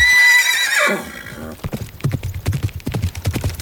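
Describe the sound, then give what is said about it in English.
A horse lets out a loud, descending whinny, then its hooves start a steady clip-clop rhythm, about a dozen sharp strikes in quick succession. “But you're doing the lion's share and looking after the horse, since I'll probably be the one looking out for us with the street smarts out there.”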